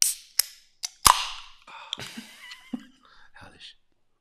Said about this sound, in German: Wir haben ja extra ein schönes ASMR-Mikrofon hier. Hört mal, mache ich mal direkt mal eine Dose auf hier.